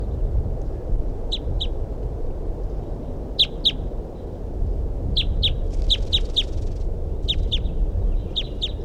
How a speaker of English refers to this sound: 4:14 p.m. and I definitely hear crossbill calls coming now from the north of where I'm sitting. Start recording. That's a crossbill there that I saw or heard. It's a female.